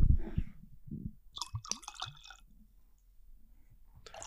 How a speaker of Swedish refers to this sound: Jag ville köra ASMR nu när du hällde upp whisken.